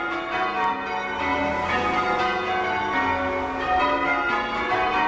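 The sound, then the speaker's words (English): Church bells peal in a steady, overlapping sequence of change ringing in the Yorkshire Surprise Major method, bright tones tumbling one after another with a rich, resonant hum sustained beneath, no voices present. “And this evening, you will be able to hear this. Well, something sounding like this. The Yorkshire Surprise Major.”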